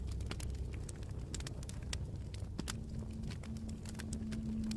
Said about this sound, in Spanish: Hay una hoguera muy cerca de ti y escuchas el ligero crepitar de los troncos de leña quemándose.